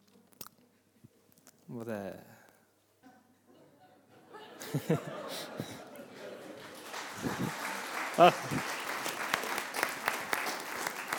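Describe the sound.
An audience breaks into applause for a guest after his YouTube experiment video is shown, building from scattered claps into a steady, dense wash of clapping, with a brief voice and some laughter heard early on.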